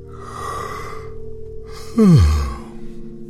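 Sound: yawning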